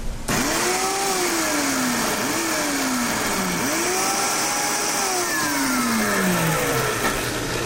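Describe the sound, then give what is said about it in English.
A blender motor whirs loudly and steadily, its pitch repeatedly dipping and climbing as the blades puree seeded ingredients with a splash of water added, with no talking over it. “All right, so we've got these nice and seeded, and we're going to puree this.”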